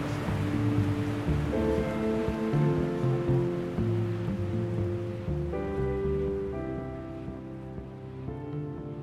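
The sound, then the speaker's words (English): A steady, loud roar of a long, clean breaking surf wave with a surfer riding it, rushing for several seconds, with a low droning hum of layered steady tones underneath that shifts pitch midway. No one speaks. “I have all the kind of natural feelings of, God, I wish I'd got that wave, and hope he doesn't blow it, and look how long that wave's going, and this is all, you know, this is programmed.”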